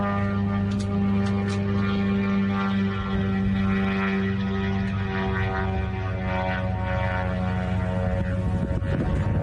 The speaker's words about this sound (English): Here is, like I said, the Shahid drone that is getting smacked down by a freaking helicopter.